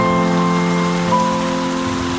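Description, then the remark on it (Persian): Steady, dense rain falls and patters on a surface, a continuous hiss that holds evenly throughout with no voices, and a faint constant hum sits underneath. “باورت میشه من دیگه نمیترسم، من زیر بارونم بدون چتر و سرپناه.”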